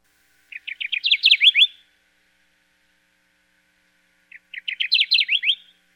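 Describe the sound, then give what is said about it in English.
A Kirtland's warbler sings on its nesting grounds, two short, loud phrases of rapid, bright chip notes that quicken and swell toward the end, separated by a few seconds of quiet against a faint background hum. “It's a Kirtland's warbler singing on its nesting grounds.”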